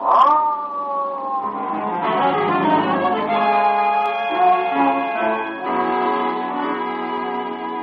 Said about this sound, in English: Come on, Wayman, hit that siren.